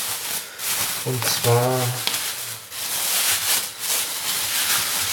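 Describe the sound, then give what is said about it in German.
A door whose hinges have no oil gives a single drawn-out squeak, a wavering, creaky tone lasting about a second, set against a steady background hiss with soft rustling afterward. “Ja, ich höre eine Tür, man hat es schön quietschen hören und jetzt hier ein bisschen raschelt und verblitzt dich, das sind die Eisbeine.”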